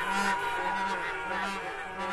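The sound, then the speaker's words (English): A pawpaw horn, a horn used in the honk horn music of Ghana, honks in a steady, continuous blare, its buzzy low tone overlaid with bright, dense harmonics, sounding loud and unbroken with slight wavering pulses and no voices. “And thanks for introducing us to the pawpaw horn.”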